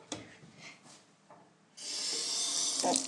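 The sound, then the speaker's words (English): After a second or so of faint scuffs and handling noises, a tap suddenly turns on during tooth brushing and water gushes steadily into a sink, a loud, continuous hiss to the end. “The music of flowing water.”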